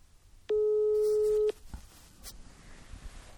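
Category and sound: signal or alarm, telephone ringback tone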